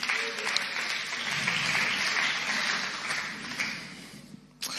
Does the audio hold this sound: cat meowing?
no